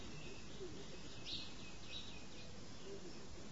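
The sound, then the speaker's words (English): Birds chirp faintly, a few brief high calls scattered over a steady outdoor background hum. “The birds are chirping.”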